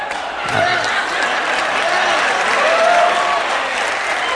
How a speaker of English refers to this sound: Y'all clapping because you're thinking that was my first wife. That ain't my first wife. Second one.